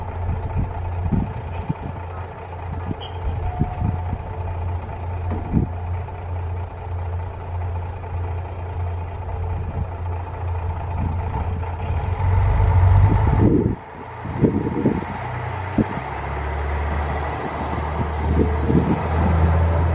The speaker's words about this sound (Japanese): 今ですね、姉別駅を出発するあのキハ54ですね、はい、まあ、最初に、ね、ディーゼルのこうアイドリングの音が聞こえて、で、ピッてこう運転手さんがあのホイッスルを鳴らし、そして